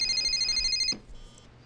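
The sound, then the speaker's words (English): A telephone rings with a bright, trilling electronic tone, cut off abruptly after about a second by a soft click as the handset is picked up, then quiet. “Call me right back on the secure phone.”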